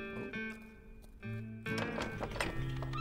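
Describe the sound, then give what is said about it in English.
Horses whinny and neigh with high, wavering cries while hooves clip-clop on a hard surface, growing busier and louder toward the end. “Plenty of room for the horses.”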